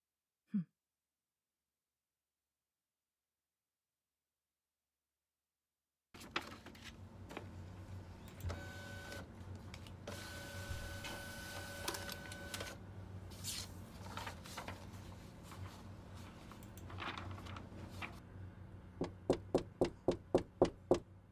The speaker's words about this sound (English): Anyways, I gotta go make these copies, so I'll be getting back to it.